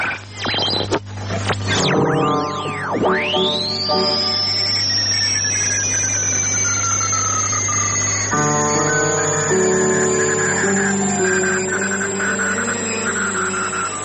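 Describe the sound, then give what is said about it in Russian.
An electronic radio-art composition by German radio artists, "Radio on Radio", dedicated to the art of radio (not shortwave noise or interference): sweeping tones that dive and rise into a sustained high whistle, over a steady low hum and layered harmonic drones, with no voices. “Слышите не кратковолновый шум и не помехи. Это звучит композиция немецких радиохудожников «Радио на радио», посвященная искусству радио.”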